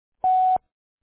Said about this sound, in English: Nothing has been recorded. Record your message after the tone. Simply hang up when done.